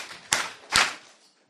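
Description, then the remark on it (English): An audience of women claps in unison at the first annual Wichita Women's Weekend, responding to a request to clap three times: two sharp, loud bursts about half a second apart, each with a brief bright ring-off before fading to quiet. No one speaks. “Clap three times if you hear me.”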